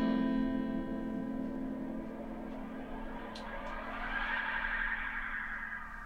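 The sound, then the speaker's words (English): A demo of a Space Echo tape delay effect: a sustained, droning tone smeared by repeating delays, with a whooshing high band swelling and shifting partway through. Steady and fairly loud, with no voices. “Well, and also we were saying on that track, you can hear the space echo right there in the top.”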